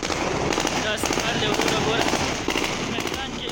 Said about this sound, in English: Gunfire streaked the skies over Kabul airport as the Taliban celebrated the last U.S. troops leaving, giving them full control of the city and Afghanistan.